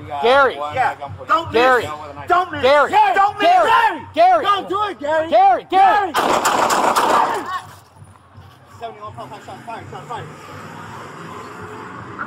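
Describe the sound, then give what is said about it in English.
In police bodycam footage at Imperial Beach, California, raised, urgent voices shout for several seconds, then a loud burst of rapid gunshots cracks out over about a second as a San Diego County Sheriff's deputy fatally shoots a suicidal man with a knife, before the scene drops to quieter background noise and murmuring. “we have a suicidal guy with a knife, ends up being fatally shot by a San Diego County Sheriff's deputy after he called 911.”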